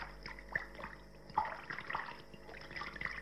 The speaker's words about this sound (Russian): наливает воду в таз. Вот сейчас я вам покажу, как это он делает. Вот.